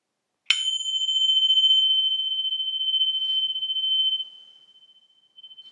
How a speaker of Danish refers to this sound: Meditationen begynder, når klokken ringer.